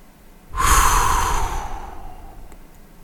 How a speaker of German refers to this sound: Sie atmet tief durch, ändert sofort ihre Passwörter, informiert die Bank, alarmiert die IT-Abteilung.